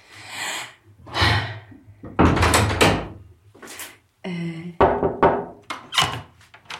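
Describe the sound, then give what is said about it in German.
An unlocked door is opened with a string of clunks and rattles of the handle and latch, a short squeaky creak in the middle, then more knocking and scraping as it swings. “Oh cool, es ist offen.”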